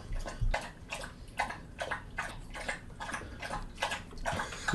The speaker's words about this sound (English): The thing is, like, they drink all that water and be like, dogs have it figured out. Just drink water.